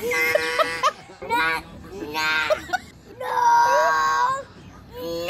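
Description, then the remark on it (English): A small child imitates a duck with a series of strained, high-pitched, nasal quacking cries, four or five bursts in a row, loud, with short gaps between them. “This toddler was doing an impression of a duck.”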